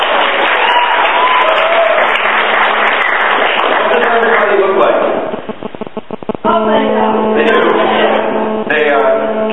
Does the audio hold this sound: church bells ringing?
no